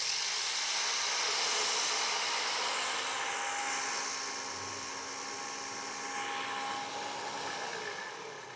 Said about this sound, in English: So I put everything in the blender, and this is what happens.